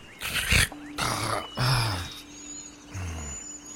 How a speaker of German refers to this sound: Und es kommt nicht von deinen beiden Brüdern, sondern es klingt eher wie der Trollkönig, dem ihr gerade gegenüberstandet. Ich höre etwas, was ich denke, dass es der Trollkönig ist.